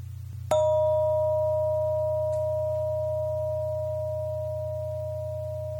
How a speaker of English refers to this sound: Okay, now I'm going to ring the bell again. It might be a short tone, or it might be a long tone, but we'll do the same thing. As soon as you hear the tone stop, raise your hand.